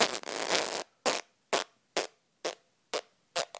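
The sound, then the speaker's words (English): A child blows a long, wet raspberry imitating a fart, then follows with six short, sputtering bursts at a steady rhythm, fairly loud, with no talking. “Then he farted like this.”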